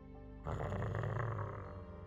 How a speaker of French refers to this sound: Le chien grogna. Alors, ce n'était pas inhabituel qu'il grogne, puisqu'il le faisait assez régulièrement. Ce qui était inhabituel, par contre, c'était qu'il grognait sur moi.